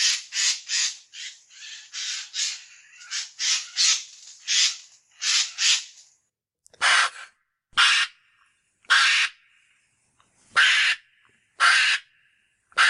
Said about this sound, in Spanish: Y es que ese graznido, por llamarlo así, pertenece a un córvido, pertenece al arrendajo.